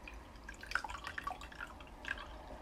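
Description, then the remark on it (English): Water drips and splashes softly in an irregular patter as a person's chest and sides are washed in a gladiators' washing room, small bright plinks clustering in quick bursts, then a lone drop later, over a faint low hum. No one speaks. “The dirt and sweat just flows away with the water.”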